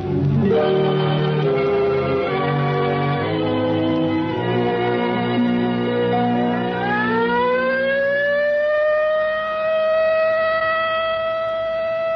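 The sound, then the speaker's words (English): A civil defense practice alert siren sounds loudly and steadily, its tone rising in pitch and then holding a high, sustained wail for several seconds. No voices are heard. “There it is, the practice alert.”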